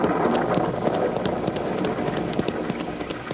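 Light rain starting to fall on a road, a steady soft hiss scattered with sharp little drop taps throughout, moderately loud, with no voices.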